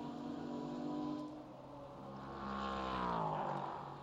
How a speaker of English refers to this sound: Great to hear the sounds of the race cars going through the kink and down towards Canada Corner with just under 4 minutes still to go before we release the pack of pro drivers and their cars.